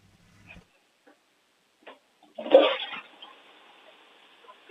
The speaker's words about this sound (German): Das ist ja eine schöne Klospülung, die die Sarah da hat.